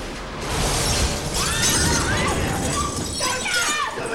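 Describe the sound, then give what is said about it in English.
A sniper's gunshot shatters glass: a sudden burst with a loud, noisy crash that keeps rattling and tinkling for several seconds as indistinct voices clamor underneath. “The sniper's red target light finds him.”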